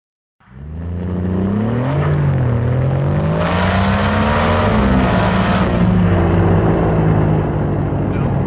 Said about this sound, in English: The struggling engine of the aged Italian M40 coughed and choked to an asthmatic halt. Shit. Yeah, well, we're done. We're done now. We ain't moving.